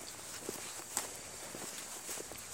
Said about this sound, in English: I agree, because we all heard the grass crunching out there, too.